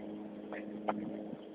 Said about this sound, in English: one of them aerator things there. Just going to town on a lawn that looks like it's seen better days.